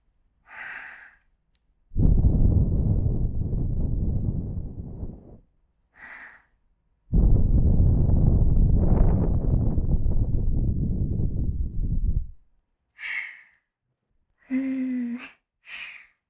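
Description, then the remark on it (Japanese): Breath blown into the ear in two long, steady gusts, each several seconds of loud, rumbling, airy rush, separated by soft inhales, with a few brief breathy sounds at the end. “耳の中に息を吹けば吹くほど、どんどん敏感になっちゃいますね。”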